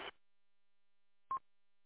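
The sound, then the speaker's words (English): A short burst of radio static cuts off, then after a silent pause a single brief, mid-pitched roger beep from a mobile radio sounds at moderate volume. “you got a Roger beep turned on that mobile.”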